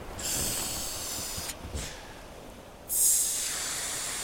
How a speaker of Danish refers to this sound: I mørket mellem klitterne pakker han gummibåden ud. Han begynder at puste den op med munden.